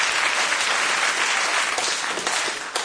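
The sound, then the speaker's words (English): Steady audience applause fills the whole stretch, a dense wash of many hands clapping at a fairly loud, even level with no voices standing out. “No pence for that round. Some applause, please.”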